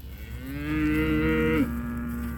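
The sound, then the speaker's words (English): A single cow moos in a long, low, drawn-out call that swells over about a second, then breaks off with a brief lower tail. No one speaks. “the cows have better genetics, producing more consistent, higher-quality beef than ever before.”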